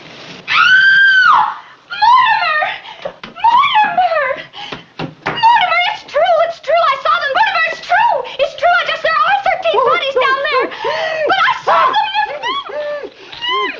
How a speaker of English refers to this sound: What's all the screaming about?